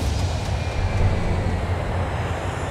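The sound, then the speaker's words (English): A loud, steady roar of an airplane engine as a plane lands in Washington, D.C., with a deep rumble that holds constant throughout and no voices. “Then their attentions were quickly diverted elsewhere to another flight landing in Washington, D.C.”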